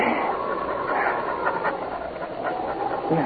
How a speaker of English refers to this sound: It was a panting but triumphant dog who lay 5 minutes later at his master's feet